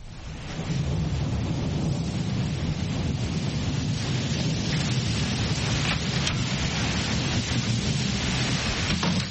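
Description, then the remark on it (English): Heavy rain pours down in a steady, dense roar with a low rumbling undertone, constant throughout, with no voices. “It's raining very hard.”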